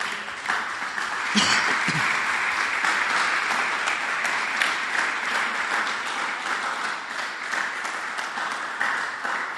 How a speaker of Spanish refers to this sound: ¿Cuánto le da un aplauso a él?